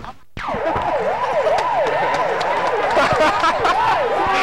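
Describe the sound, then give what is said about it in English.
A passing police car's siren, its flasher flashing as police clear a crowd from the street, yelps in quick, repeating rise-and-fall sweeps, loud and steady for several seconds over a bed of busy street noise with occasional sharp clatters. “That, by the way, is the noise emanating from the police car.”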